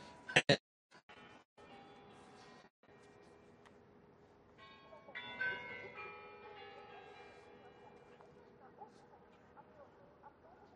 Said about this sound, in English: I love the sound of the bell.